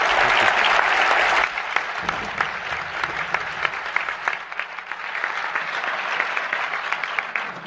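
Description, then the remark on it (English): An audience at a public presentation claps steadily for the speaker for several seconds, a dense wash of many hands that starts loud and fullest, then thins slightly into scattered but sustained applause. “Please have another round of applause.”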